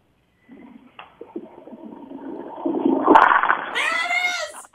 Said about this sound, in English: All right, you ready? Put the phone down by the toilet and flush away.